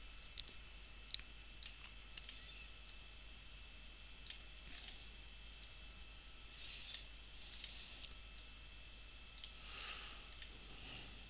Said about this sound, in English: So obviously we need to adjust the widths of these fields so that it doesn't go over the edge of the page. So let us do that by clicking and dragging.